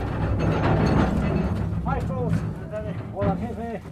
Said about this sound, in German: arbeitet mit bloßen Händen, einem Hammer, einem Meißel und einer der Transportkarren, die beständig mit ohrenbetäubendem Lärm über die Schienen nach draußen rumpeln.